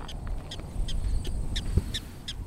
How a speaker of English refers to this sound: Here's our barking prairie dog.